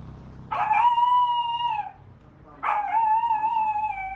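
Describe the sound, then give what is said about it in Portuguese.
A dog, Paçoca, lets out two long, drawn-out howls, each holding a steady pitch for over a second, separated by a brief pause, with no talking. “Ah, mas se via muito seu Tavares e seu cachorro, Paçoca.”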